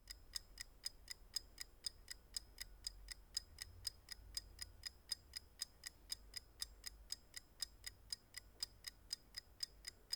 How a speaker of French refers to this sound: Le tic-tac, le temps qui passe.